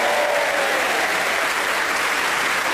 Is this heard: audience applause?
yes